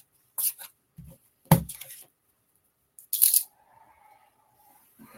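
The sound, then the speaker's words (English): A deck of cards being shuffled in three quick bursts of crisp, papery riffling and flicking, with short quiet gaps between them and no talking. “That we need to shuffle these a little more.”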